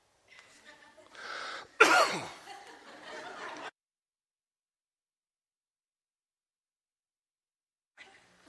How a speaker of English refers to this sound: I have to cough.